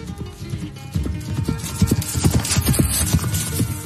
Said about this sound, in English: But it was too late, for the knight on his horse was already galloping away.